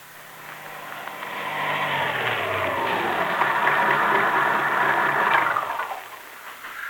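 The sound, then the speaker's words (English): A car engine hums steadily as the vehicle drives along, swelling slightly, then winds down and quiets as it pulls to a stop near the end. No one speaks. “You stay right here in the car.”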